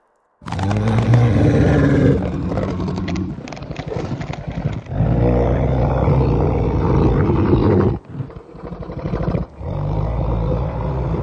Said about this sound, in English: There was a moaning, though, a shadowed shuffling as something clicked, popped, then a dinosaur growl.